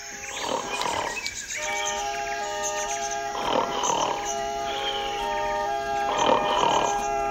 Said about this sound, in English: How can I get any sleep with you snoring?